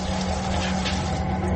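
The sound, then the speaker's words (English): Welsh water runs steadily into a container, a loud, continuous rush with a low humming undertone that holds even throughout the short stretch. No one speaks. “Welsh bloody water.”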